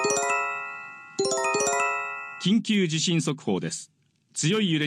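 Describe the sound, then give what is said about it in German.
A loud, harmonic electronic earthquake early warning alert tone sounds twice in quick succession on a smartphone, followed by a person speaking clearly. “Kommt ein Beben, werden Menschen am Smartphone alarmiert.”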